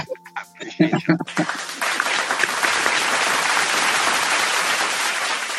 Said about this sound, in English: Lots of applause. Everybody clap. I'm going to clap.